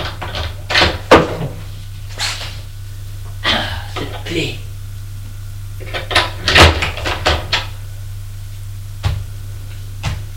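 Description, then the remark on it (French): A door of a dark radio studio being locked with a key from the inside: a few separate bursts of metallic clicks and rattling spread over several seconds, over a steady low hum. “Ferme la porte à clé de l'intérieur.”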